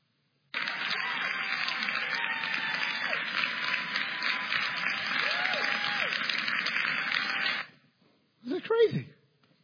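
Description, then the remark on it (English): Legislators burst into sustained applause and cheering for about seven seconds after a law was passed, dense clapping with voices mixed in, then fading out before a brief final burst of sound. “They're cheering. They're applauding.”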